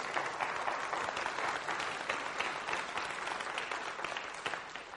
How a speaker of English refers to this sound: Amen. Come on, give the Lord an applause. Come on. Yeah.